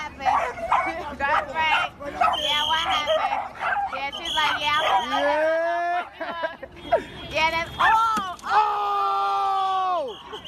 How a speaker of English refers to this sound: Dogs chaotically going in all directions.